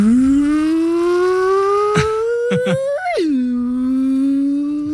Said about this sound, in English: And when people would call it was just this weird test tone that the phone company had that went...